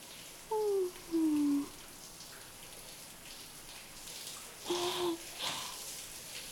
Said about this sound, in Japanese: シャワーで汗を流すのは気持ちいいですね。